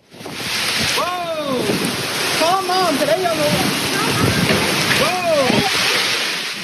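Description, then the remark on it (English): Heavy rain pours down during a severe storm in Texas, recorded by a man stuck at a laundromat, in a loud, steady, hissing roar that never lets up, while a voice cuts in briefly a few times with short rising and falling exclamations. “This video was taken by a man stuck at a laundromat during the storm, and you could hear how hard the rain was coming down.”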